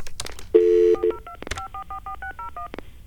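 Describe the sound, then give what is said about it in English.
A rapid series of telephone keypad beeps as someone dials to call pizza delivery, about a dozen short dual-tone presses in quick succession after a longer steady tone, clear with no talking. “I mean, let's call someone who will deliver me to a pizza. So we'll go to the phones here.”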